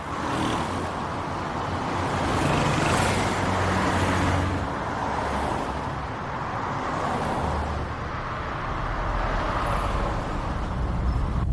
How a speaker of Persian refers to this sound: اتوبان، متین دفتری سوار ماشینش رانندگی میکنه.